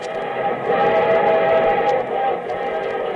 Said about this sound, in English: From Hollywood, here comes the star-studded show train.